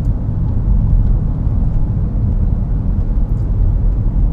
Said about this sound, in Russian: А так все-таки из автомобиля и все-таки на достаточно оживленной улице.